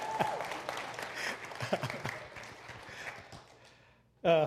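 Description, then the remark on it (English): A church audience applauds to welcome a guest pastor in a steady, dense patter of many hands clapping for about four seconds, fading toward the end before a voice begins speaking. “I don't get applauded much.”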